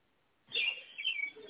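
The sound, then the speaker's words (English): Soft bird chirps and tweets start after a brief pause, a busy flutter of high calls continuing steadily in the background, fairly quiet overall with no voices. “Birds in the background.”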